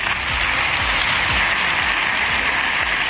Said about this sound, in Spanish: Y entre aplausos, sus diputados se han marchado.